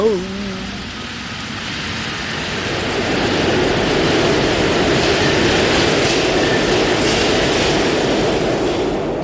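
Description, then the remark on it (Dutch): A metro train rolls into a station in Paris, a broad rumbling roar that swells over a few seconds and holds steady, with faint squealing tones at the very start. “Oh, er komt een metro net aan.”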